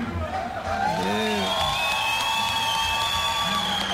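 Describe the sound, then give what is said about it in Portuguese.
A festival crowd of Palmeiras das Missões supporters, a good audience on the mezzanine, cheers and whoops continuously, with high shrill voices and whistles rising over a dense, steady roar of many people, loud throughout. “Vibração aqui da torcida de Palmeiras das Missões.”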